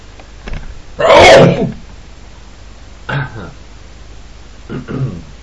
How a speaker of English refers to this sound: Well, as you can hear, I'm sneezing.